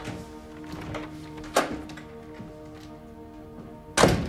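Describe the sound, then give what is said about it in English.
An apartment door being pulled shut: two dull wooden thunks, a sharp one early and a heavier closing thud at the end, over a steady low hum with no talking. “He stands, arms folded, as she pulls the door shut behind her.”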